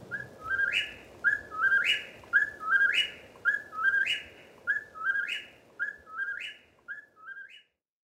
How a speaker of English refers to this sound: Through the night, the incessant calls of the whippoorwill can be heard from New Brunswick to northern Georgia.